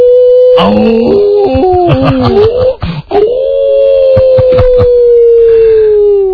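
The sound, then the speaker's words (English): A person imitates a long howl, the voice wavering and sliding up and down before settling into a sustained, steady note that slowly fades. Loud, with no other sounds. “when you guys do falsetto voices, I have to ask, …, can you howl?”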